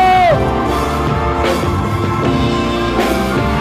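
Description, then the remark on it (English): A live show audience in Dallas clapping and cheering as loud as it can, a loud, continuous roar of shouting with a few sharper bursts of applause, sustained at full volume throughout. “Start clapping right now! Get as loud as you can, Dallas!”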